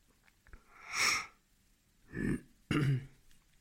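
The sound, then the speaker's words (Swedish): A young boy sitting on his mother's lap and waving coughs three times in quick, irregular succession, each cough short and harsh, with quiet pauses between and no talking. “Pojken hostar, sitter i sin mammas knä och vinkar.”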